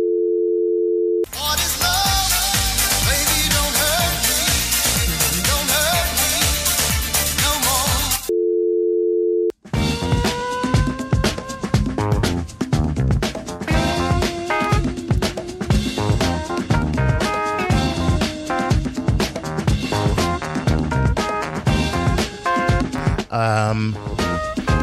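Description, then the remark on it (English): A steady telephone tone plays alone, then dense, loud full-band music begins, pauses as the tone briefly returns, and resumes playing continuously to the end, like on-hold music on a phone line. “Please enjoy the music until your party answers the phone.”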